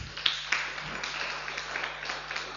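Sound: applause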